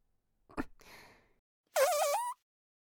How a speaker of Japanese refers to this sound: 水っぽいおなら出ちゃった。こういうおならってお尻の穴がいい感じに震えて気持ちいいのよね。